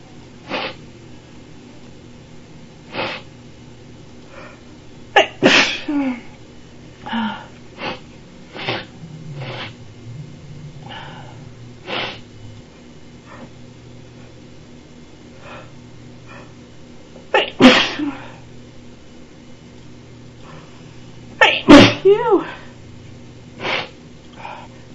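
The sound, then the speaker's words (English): A person with allergies sneezes several times, three sharp, forceful bursts spread out with pauses between, plus quieter sniffs and snorts in between over a low steady background hum. “Oh, you're just really enjoying seeing me sneeze.”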